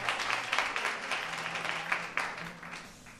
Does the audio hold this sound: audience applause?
yes